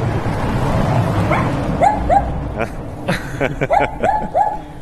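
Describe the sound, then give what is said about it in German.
A small dog behind a gate yaps in two quick bursts of short, high barks, over a steady outdoor background hum and faint murmuring. “Guckt unter dem Tor quasi so ein kleines Hundemaul durch.”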